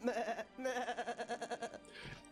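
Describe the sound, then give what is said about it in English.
A goat bleats in one long, quavering call with a rapid wobbling tremolo, loud, broken by a brief pause and trailing off into a softer, breathy end. “You might actually be the goat.”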